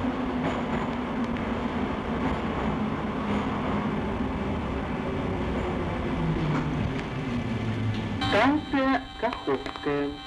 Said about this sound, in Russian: Переход на станцию Севастопольская. Поезд дальше не идет. Просьба освободить вагоны.